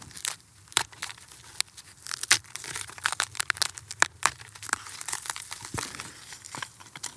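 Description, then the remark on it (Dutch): Dry, dead charred wood from a burned-out plain, a piece of a tree, crumbling and snapping between fingers: a dense run of crisp crackles and sharp brittle cracks, irregular and bright, with no talking over it. “Allemaal verdord hout. Stompjes, stam. Hier zie je nog een stukje van een boom. Ik kan het zo kapot maken.”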